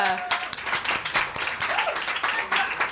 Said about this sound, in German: Oh, toll! Applaus!